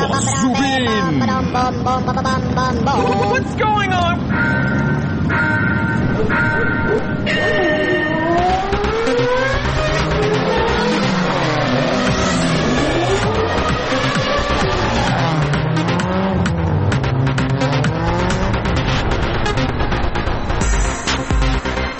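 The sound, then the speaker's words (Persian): Several race car engines rev loudly and continuously, their whining pitches sweeping up and down and overlapping as the cars roar past, with no talking. “بهها خیلی ممنونم از تماس شما و الان میخوایم بریم سراغ ایستگاه اتومبیل رانی و موتور سواری.”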